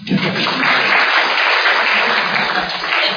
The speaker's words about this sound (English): Thank you, Daddy. A round of applause for Daddy.